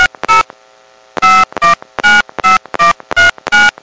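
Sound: phone keypad dialing tones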